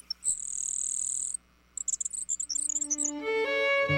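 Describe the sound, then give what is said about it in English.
A grasshopper sparrow song: a thin, very high, insect-like buzz lasting about a second, followed by a run of quick, high chipping notes. A rising tonal sound swells in at the end. “Today, rather than the roar of cannons, fields like Antietam are filled with the songs of blue grosbeaks. Eastern meadowlarks. And, of course, grasshopper sparrows.”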